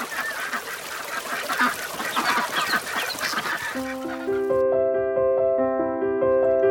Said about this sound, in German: Dieser Garten ist so toll, voller Blumen und Vögel. Und auch viele Enten im See.